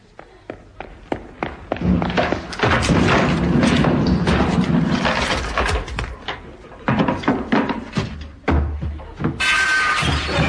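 A running shoulder charge at a door to bust it in: a run of heavy thuds and bangs builds into a loud, sustained crashing clatter, then scattered knocks trail off before a final burst of hissing noise.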